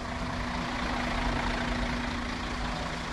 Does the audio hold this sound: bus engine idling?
yes